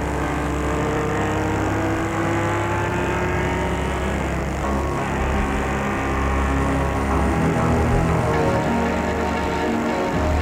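car driving

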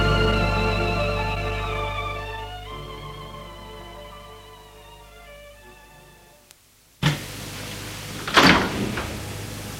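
bedroom door opening

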